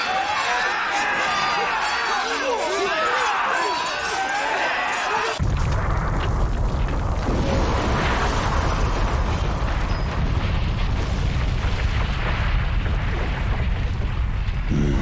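A huge cannon fires with an abrupt, thunderous blast that gives way to a loud, sustained roaring rumble, preceded by several seconds of warbling, wavering tones.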